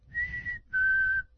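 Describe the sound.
A person whistles a short imitation of a golden-crowned sparrow's song: a wavering high note, then a longer, steady, slightly lower one. The whistling is clear, with no talking.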